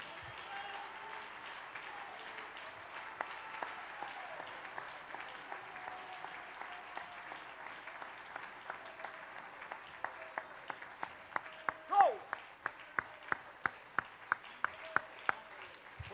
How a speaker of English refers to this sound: Could you give the Lord one more hand clap of praise?